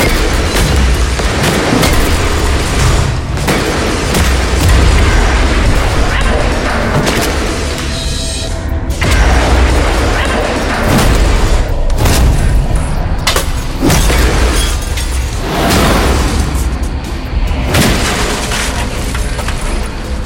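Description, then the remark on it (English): Heavy, repeated smashing blows of a metal pipe swung by a woman against stone statues, loud, each crash ringing out over a constant rumble of crumbling debris for the whole stretch as the statues are reduced to dust. “She pockets the photos and grabs the pipe. She starts smashing the statues and doesn't stop until there's nothing but dust.”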